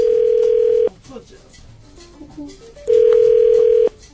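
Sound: phone ringback tone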